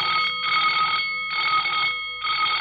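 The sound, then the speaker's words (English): An alarm bell rings loudly aboard a ship during a Japanese attack on a December morning, in repeated bursts, a harsh metallic clanging that pauses briefly between each long ring, with no voices present. “The alarm bell sounded and the fight was on.”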